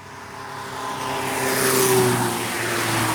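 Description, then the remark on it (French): A car engine hums steadily past on a road, its droning tone swelling toward the middle and easing slightly after, with a broad whoosh of tyres and no voices. “À quoi reconnaît-on une voiture de chasseur?”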